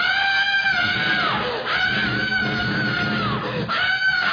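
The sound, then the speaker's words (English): A voice imitates girls screaming while playing volleyball at a state park in Peoria, letting out loud, shrill, sustained shrieks in about three long bursts separated by brief breaths. “And you go over and watch the girls play volleyball, right? And they just scream.”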